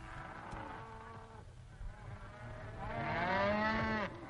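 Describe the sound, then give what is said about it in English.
A domesticated cow moos twice in long, drawn-out calls, the second louder and rising, with a faint buzzing of insects in the background. “This is the sound of another animal that man has tamed.”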